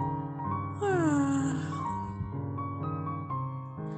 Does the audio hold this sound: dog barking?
no